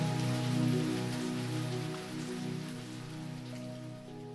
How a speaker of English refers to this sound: If you download Deep Sleep Sounds right now, you can continue this sound of soothing rain throughout tonight's story.